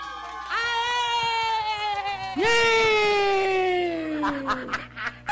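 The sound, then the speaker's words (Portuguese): Two long, loud shouted yells in a row, each held for about two seconds and sliding downward in pitch, with voices overlapping in a chaotic, playful way, shouted to cover the spot where a jingle was forgotten. “Não, porque eu gritei aqui junto pra poder tapar, porque eu esqueci de botar a vinheta.”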